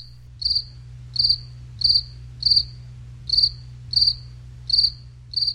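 A cricket chirps in a steady, even rhythm, eight bright trilled pulses close together over a low constant hum, with no voices.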